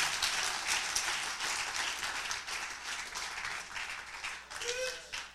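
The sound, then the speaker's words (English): A crowd claps steadily throughout, a dense, continuous patter of many hands with slight swells and dips in loudness, and a brief whoop or cheer rising near the end. “Yeah, if you believe it, clap properly.”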